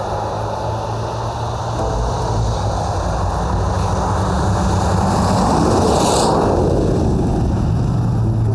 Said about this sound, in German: Das war nur ein kleiner Toyota.